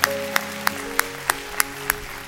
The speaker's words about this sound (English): Oh, we got a healing right here. Come on, give the Lord a hand clap right there.